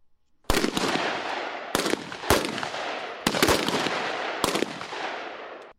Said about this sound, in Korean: 11일 경기도 동두천의 미 이사단 부대에선 여러 발의 총성이 울려 퍼졌습니다. 한국에 주둔한 미 이사단과 한국에 순환 배치된 3사단 1기갑여단 병력 등 총 24명이 최고 전사 자리를 놓고 경쟁을 벌이고 있는 겁니다.